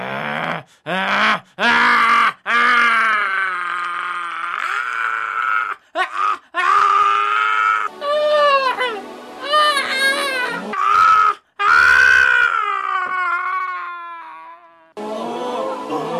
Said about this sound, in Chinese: 那鬼喊叫，使孩子大大的抽了一阵风，就出来了。